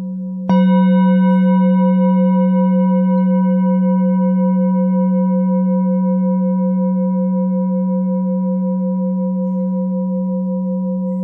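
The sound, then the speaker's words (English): A mindfulness bell is struck once, then rings on alone with a deep, steady hum and shimmering overtones that hold and slowly fade for about ten seconds. “The sound of the bell always calling us home to the present moment.”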